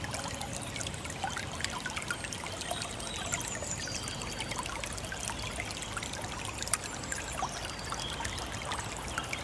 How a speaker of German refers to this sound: Der Heisterbach und das Frühlingszwitschern der Vögel. Das Orchester des Frühlings.